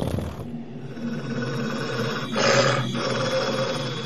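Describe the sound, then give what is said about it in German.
A low, rumbling creature growl rolls on steadily, with a brief rougher swell of breathy noise midway, moderately loud, and no one speaking. “Aber ihr hört auch ein leises Knurren.”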